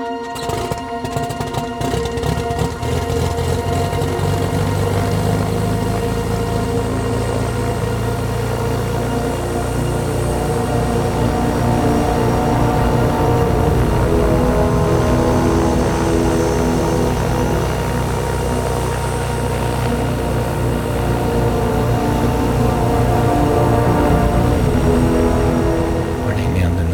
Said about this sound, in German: Am Morgen des Rennens, die Motoren werden gestartet.